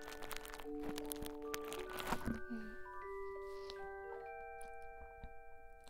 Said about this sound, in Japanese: スポンジの音好きです。嬉しいな。じゃあちょっとスポンジの音もうちょっとハサミでさ切ったんだよ。終わってて。もうちょっと細かくやった方がいいかもね。